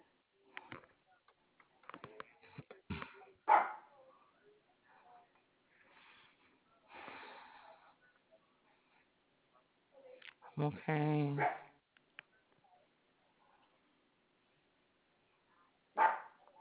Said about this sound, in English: Hey, knock it off. Somebody must be out in there. Yes. Today's trash pickup day. Or she may Oh. be barking at the trash man. But she was wanting to let me know he was there.